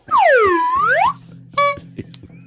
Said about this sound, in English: Oh, gave that a honk?